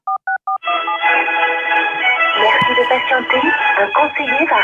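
Three quick, evenly spaced touch-tone beeps dial a number, then a muffled, tinny phone-line recording takes over as the call reaches a telephone switchboard, sounding like hold audio or a recorded voice playing.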